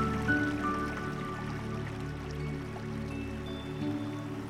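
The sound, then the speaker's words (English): A small stream tumbles downhill, babbling and splashing steadily over rocks and stones, a continuous gurgling wash of water with faint trickles and drips, with no voices. “As the stream tumbled downhill, we followed its path until eventually it became wider and deeper.”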